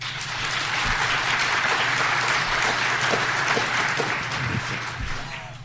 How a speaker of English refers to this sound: So let's first do the applause. For those of you who think that the computer chip is the fiction, applaud now.